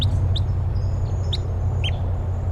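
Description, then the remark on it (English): Wild type 3 crossbills call overhead in flight: four short, sharp, high chip notes spaced irregularly across a few seconds, fairly faint over a steady low rumble and a thin high whine. “Recording, I hear type 3 crossbills, wild ones flying over.”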